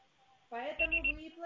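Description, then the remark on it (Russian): A voicemail beep tone on a Russian phone line, following the automated message asking the caller to leave a message after the signal: three short, high-pitched electronic beeps in quick succession, fairly loud, sounding over a low buzzing hum and some voice-like murmur. “Пожалуйста, попробуйте перезвонить позднее или оставьте сообщение после звукового сигнала.”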